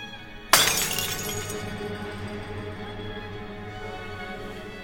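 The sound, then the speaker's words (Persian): A single loud crash of glass shattering as it is struck by hand, followed by a lingering tinkle and rattle of shards that slowly fades. No one speaks. “تو دست میزن عزیزم، شیشه میره تو دست.”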